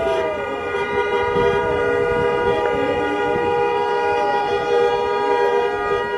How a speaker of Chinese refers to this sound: 很多呢路过的汽车啊，纷纷的按这个喇叭也表示支持。我们来听一下现场的这个气氛。